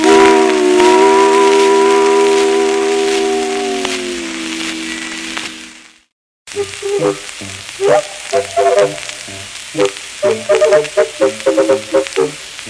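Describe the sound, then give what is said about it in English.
A loud steam train whistle blows for several seconds over a hissing rush of steam, its pitch sagging slightly before it cuts off. After a brief silence, a run of quick rhythmic tonal bursts follows. “And the trains all went.”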